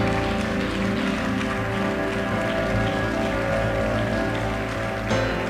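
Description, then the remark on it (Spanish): A crowd bursts into loud, sustained applause, dense clapping holding steady for about five seconds, with faint held musical tones humming beneath it. “Si lo crees, dale un fuerte aplauso.”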